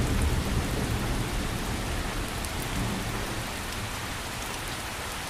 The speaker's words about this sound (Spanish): ¡Uf! ¡Qué lluvia! Lo bueno es que ya está calmando.